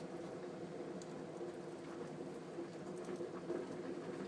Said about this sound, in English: Kettle's bubbling, you can hear.